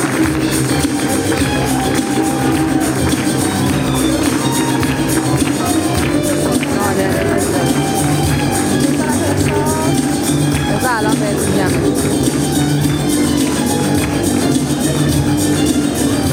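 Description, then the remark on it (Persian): An audience applauds Nadereh Rezaei, arts deputy of the Ministry of Culture and Islamic Guidance, in a dense, steady wash of clapping that holds at an even, loud level throughout, with crowd murmur and voices mixed in underneath. “معاون محترم هنری وزارت فرهنگ ارشاد اسلامی سرکار خانم نادره رضایی رو تشویق بکنم.”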